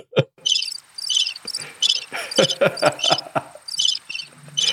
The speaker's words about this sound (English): Oh, those crickets. They're everywhere.